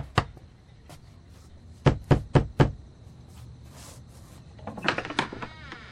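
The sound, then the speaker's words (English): A single knock, then a quick series of four firm raps on a door, distinct, followed by some softer shuffling sounds. “No, I had to get up to answer the door anyway.”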